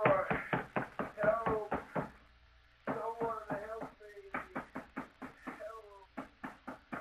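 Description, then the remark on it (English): Rapid, heavy pounding on a locked door in several bursts of repeated blows, loud, with brief pauses between flurries and a man's muffled shouting to be let out of the room mixed in. “Let me out of here. I'll break the door down.”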